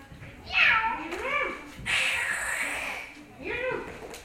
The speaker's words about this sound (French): Même ses amis les chats réussirent à l'inquiéter en se chamaillant.